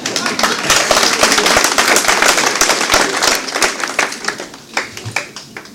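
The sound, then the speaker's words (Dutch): A crowd claps steadily, a dense wash of many sharp hand claps filling the whole stretch, loud throughout and thinning a little toward the end, with faint voices underneath. “En als u wilt klappen, doe het dan goed, zou ik zeggen.”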